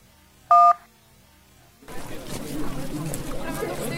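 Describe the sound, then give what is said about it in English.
A single short telephone keypad tone sounds as a number is pressed in a voicemail menu, followed after a pause by noisy outdoor background with chatter. “If you want to hear the next voicemail, please press the 1.”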